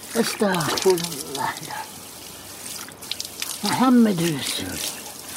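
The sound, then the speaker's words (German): Water runs steadily from an outdoor tap in front of a house during a ritual washing in the eastern Black Sea region, a continuous splashing hiss, while a voice speaks in short bursts over it. “Es beginnt am Wasserhahn vor dem Haus mit einer rituellen Waschung.”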